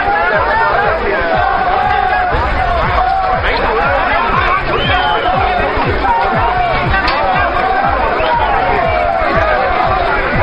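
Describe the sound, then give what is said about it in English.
A large crowd cheers and shouts without pause as rescued workers are pulled out on wheeled stretchers, many voices overlapping into a loud, continuous roar of excitement. “Crowds cheered and hugged as each worker was pulled out on a wheeled stretcher.”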